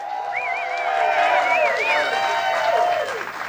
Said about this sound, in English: Nothing like manufactured applause. Nothing as good as that.